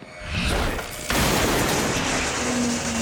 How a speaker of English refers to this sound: Peter blows up a box on the wall to silence the announcements.